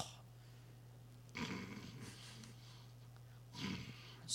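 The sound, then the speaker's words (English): Two slow, breathy snores roughly two seconds apart, each a rough rasping inhale swelling then fading, over a low steady hum with no talking. “Snores.”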